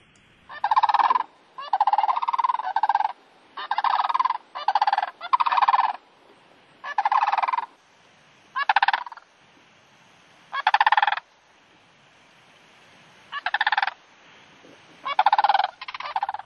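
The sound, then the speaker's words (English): Sandhill cranes give loud, rolling, rattling bugle calls in about a dozen separate bursts, some in quick clusters and others spaced by short pauses, with no talking. “And let's listen to that sandhill”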